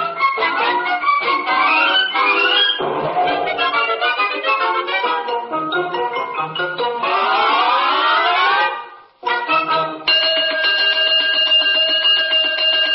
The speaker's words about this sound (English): Oh, dear. Oh, dear. The cosmic alarm. Which means I fear some woeful harm is afoot or a wing in the universe.